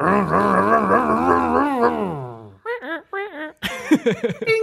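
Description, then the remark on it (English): A man's voice imitates a roaring engine: a long, rumbling, wavering vocal rev that climbs in pitch, followed by a few short, choppy revving bursts, fairly loud. “I want to redo our engine noise.”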